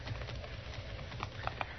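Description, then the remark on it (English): A woman's horse, just caught, clip-clops at a slow walk, a few hollow knocks standing out over a steady, muffled background rumble. No one speaks. “I got her horse.”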